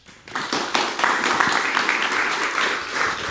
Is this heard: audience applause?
yes